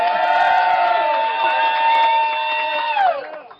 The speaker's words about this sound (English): First of all, let's get a loud roar from the crowd here.